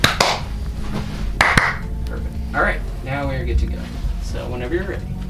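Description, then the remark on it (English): A few single sharp hand claps, one person after another each clapping once, land crisp and loud in the opening seconds as filming of The Build, a season of Opening Soon, begins, followed by people talking with a low background hum. “Actually, if you would each clap once, one after the other.”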